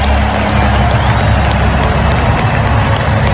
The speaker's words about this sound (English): Here's President Trump getting applauded at the Super Bowl.